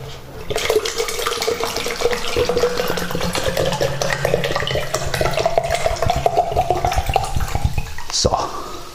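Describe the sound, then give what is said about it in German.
Mineral water pours steadily from a bottle into a container for about eight seconds, a continuous gurgling stream whose pitch rises as the vessel fills, ending with a brief splash as the bottle is emptied. “Gut, dann wollen wir mal das voll machen hier.”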